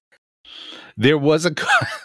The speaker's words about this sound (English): There was indeed a cough. I noted the cough.